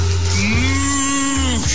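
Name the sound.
cows mooing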